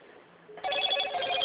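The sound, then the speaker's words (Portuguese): A WhatsApp video call ringtone starts softly, then jumps to a louder, bright, melodic electronic ringing of tonal chimes that continues steadily to the end, with no voices present. “Eu vou te ligar pelo WhatsApp.”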